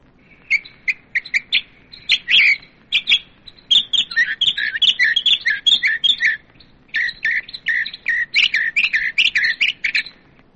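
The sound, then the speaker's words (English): A mockingbird sings a long, varied run of rapid chirps, whistles and trills in quick bursts, clear with no talking, the phrases changing constantly. “Mockingbird.”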